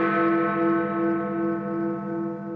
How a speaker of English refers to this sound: Precisely at noon, the chimes of Big Ben rang throughout central London.